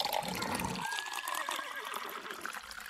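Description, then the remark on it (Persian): Water pours steadily into a glass bottle holding a small red fish for a few seconds, a splashy, gurgling stream whose pitch climbs as the bottle fills, continuous. “صدای دویدن نگهبانان و ریختن آب در بطری به گوش رسید.”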